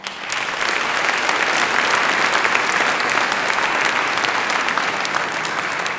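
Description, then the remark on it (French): Sustained applause from a sizable audience, a dense steady patter of many hands clapping at even loudness throughout, with no voices standing out. “Applaudissons également Gérard Bouchu à la régie, son et lumière.”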